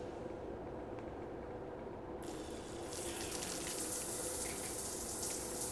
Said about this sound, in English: Let's get you in the shower.